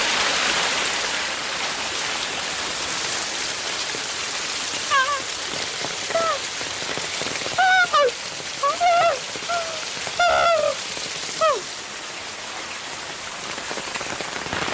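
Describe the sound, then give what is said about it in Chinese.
Steady rush of splashing water from a small waterfall on a low hill on a rainy day fills the whole recording, with a scatter of short chirping calls rising above it partway through. No one speaks. “啊，小瀑布，骑下脚了。”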